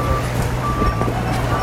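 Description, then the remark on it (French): Construction tractors arriving together and excavators at work at a Grand Paris site in Île-de-France rumble with a deep, steady engine drone, a thin high reversing tone running faintly over it, while a voice murmurs indistinctly. “Il y a les tracteurs qui arrivent là, ensemble.”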